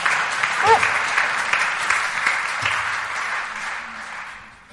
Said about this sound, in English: Round of applause